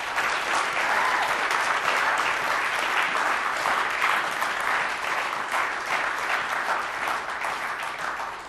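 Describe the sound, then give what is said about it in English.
A crowd applauds two people being congratulated, clapping steadily for several seconds. It is a dense, even wash of many hands clapping at a constant loud level, tapering only slightly at the very end. No one speaks over it. “Will you give these two a round of applause?”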